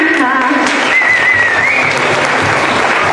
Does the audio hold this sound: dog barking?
no